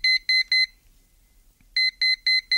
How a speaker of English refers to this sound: The bleeper in my pocket is simply programmed to react when it hears a certain sequence of tones. It's like an electronic key fitting into a slot. About 15 seconds after calling that number, the bleeper reacts.